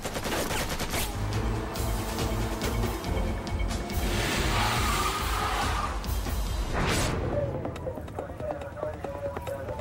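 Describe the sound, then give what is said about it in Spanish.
A sustained fusillade of rapid gunshots, fired along the floor-level black band of a school bus, crackles nearly nonstop and loud, with dense overlapping bursts and indistinct voices mixed underneath. “Dispararon justo a lo largo de la banda negra del típico autobús escolar, la que se encuentra a nivel del piso, de modo que incluso las personas que se estarían escondiendo para cubrirse habrían recibido disparos desde el otro lado del autobús.”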